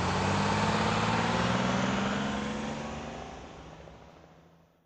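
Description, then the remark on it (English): A bus engine rumbles loudly and steadily, then fades gradually as the bus to the beach pulls away, with no voices present. “Yes, quick! Get on! The bus is leaving!”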